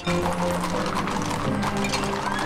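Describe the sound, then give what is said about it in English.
Several horses' hooves clatter in a steady, overlapping clip-clop as the sheriff, Gisborne and Alan mount their horses and ride off together, loud at first, with a faint clink of tack mixed in. “The sheriff, Gisborne and Alan mount their horses and ride off.”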